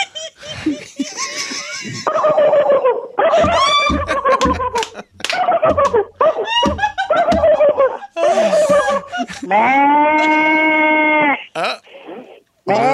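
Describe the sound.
A person imitates a goat with a string of loud, wavering bleats, ending in one long quavering cry; some laughter-like voicing is mixed in.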